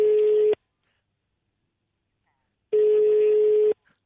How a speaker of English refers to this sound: No, that's the international ring.